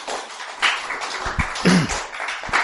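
A small group applauds with a steady patter of hand claps, fairly close and moderately loud, lasting a few seconds without anyone speaking.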